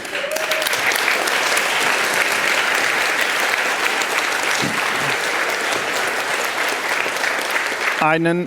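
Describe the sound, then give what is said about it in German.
Sustained audience applause for the people who helped put the event on stage, a dense steady wash of many hands clapping at an even loudness throughout, with a brief voice cutting in at the very end. “Also, auf jeden Fall möchte ich euch bitten, einen Riesenapplaus für die ganzen Leute, die geholfen haben und helfen werden.”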